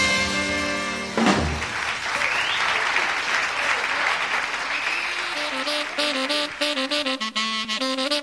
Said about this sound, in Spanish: Y bueno, sobre la campana marcada por los aplausos a esta interpretación